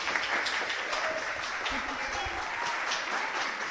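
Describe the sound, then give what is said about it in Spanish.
Sustained audience applause at a quiz contest, for the Joaquín Rodrigo team after it reaches 17 points, a dense, steady wash of many hands clapping at once with no clear individual beats, staying fairly loud throughout, with faint voices mixed in underneath. “Bueno, chicos, un aplausazo, ¿no?”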